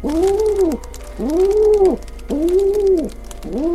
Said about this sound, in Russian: Тут Мариуччи услышала жалобный крик. Посмотрела. Это белый голубь бьется в траве, запутался лапкой в длинной травинке, никак ему не распутаться. А над голубем кружит голубка. То припадет к земле, то опять взовьется и так жалобно кричит, будто плачет.